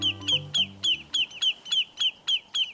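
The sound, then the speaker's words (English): Lesser yellowlegs, a shorebird, giving alarm calls at a threat to its nest: a loud, insistent string of about ten sharp, ringing notes delivered in a steady rapid rhythm, with a faint low tone fading out underneath at the start. “But when the shorebirds called lesser yellowlegs sense a threat to their nest, they'll put up an unforgettable racket to drive the danger away.”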